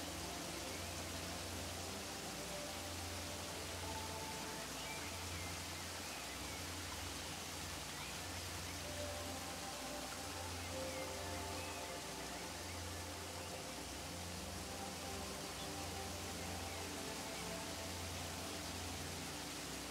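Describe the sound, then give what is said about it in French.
A steady, dense roar of rushing water, like a waterfall, fills the whole stretch at an even level without pauses or changes, with a low rumble underneath. “Vous laissez le grondement de la chute d'eau vous débarrasser de vos soucis, de vos doutes, des pensées parasites qui vous envahissent parfois.”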